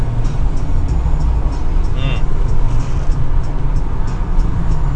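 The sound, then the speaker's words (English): Steady, loud low rumble of road traffic heard from inside a moving vehicle, with a constant engine and tire drone and a brief higher-pitched whine midway. “Now everyone's slowing down again. Oh, it was so good for a second traffic.”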